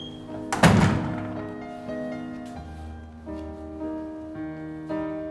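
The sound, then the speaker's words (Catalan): A woman shuts a door with a single solid thunk near the start, fairly loud, then soft sustained music carries on underneath for the rest. “Ella somriu estranyada i tanca la porta.”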